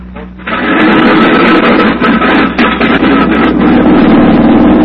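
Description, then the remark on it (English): A propeller airplane engine roars steadily after a brief quieter start as the pilot is told to take off: a loud, dense rumbling drone with a low hum underneath that holds without letup. “Tell the pilot to go now. Can I see your face? Quickly. Get that plane out of here”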